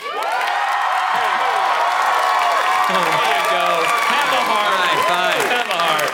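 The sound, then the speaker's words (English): A crowd bursts into steady, loud applause for about six seconds as the show goes into a break, with whoops and cheering voices rising and falling over the dense clapping. “All right, let's get a round of applause as we go into our break.”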